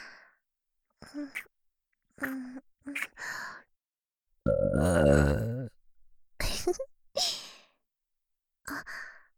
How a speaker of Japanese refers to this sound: ゲップ、こんな感じでいいですか？喜んでもらえて嬉しいです。お兄さんに感謝の気持ちをいっぱい伝えたいんですが、お兄さんには言葉よりもゲップの方がよく伝わりますね。今日は感謝のゲップをたくさんしますので、楽しんでくださいね。